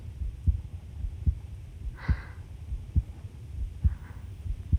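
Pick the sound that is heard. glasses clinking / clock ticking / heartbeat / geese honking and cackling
heartbeat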